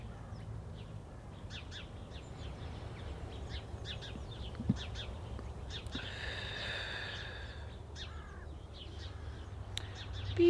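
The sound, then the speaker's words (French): Birds call outdoors: scattered short chirps throughout, plus a harsher, crow-like caw around the middle, all over a steady low rumble of traffic. No one speaks. “Bon, moi j'ai envie d'aller enregistrer des oiseaux.”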